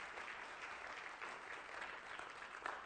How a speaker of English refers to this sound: All right, let's give God another hand clap of praise.